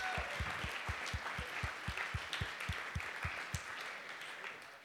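An audience breaks into applause, a dense wash of many hands clapping, with a steady rhythmic stomp or beat running beneath it before the clapping tapers off toward the end.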